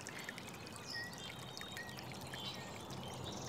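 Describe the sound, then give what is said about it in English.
Water flows steadily beneath a bridge, a soft continuous rush and trickle that stays even throughout, with a few faint high chirps from birds drifting over it. No one speaks. “We've got just the sweet furry head of a nutria doing donuts in the water below our bridge.”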